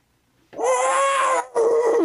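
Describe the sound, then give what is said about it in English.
A person imitates a dog with two loud, drawn-out whining howls made with their own mouth: a long first cry, a brief break, then a shorter second one. “Can you imitate it? Just imitate it with your own mouth.”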